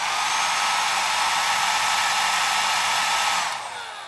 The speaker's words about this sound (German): Und der, den ich jetzt meine, das ist ein Braun Control 2000 Highline. Den hören wir uns als erstes an. Also, erst kommt der quasi leise Föhn.